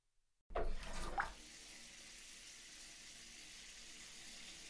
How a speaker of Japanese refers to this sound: さっさとシャワー浴びるよ。